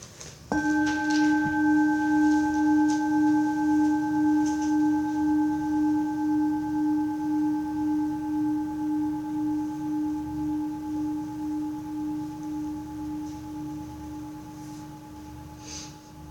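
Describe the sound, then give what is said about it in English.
A bell is struck once, then its clear, low, ringing tone hangs with a slow wavering pulse, gradually fading over about fifteen seconds with no one speaking. “Just notice the sound of the bell as it dies out, and let's just come back in the room when you can no longer hear the bell.”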